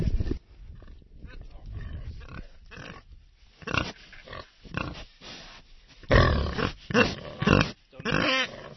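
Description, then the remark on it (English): A couple of Cinta Senese pigs grunting and snorting by a farmhouse in Chianti, a run of rough, irregular grunts that swell into louder bursts toward the end, with faint background activity between them. “And we've got a couple of Cinta Senese pigs down there, too.”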